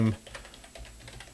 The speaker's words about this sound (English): This is always entertaining to see someone just typing.